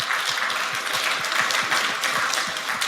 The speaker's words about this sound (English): So this is huge. Yeah, round of applause.